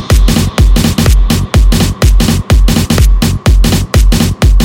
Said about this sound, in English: Military drums.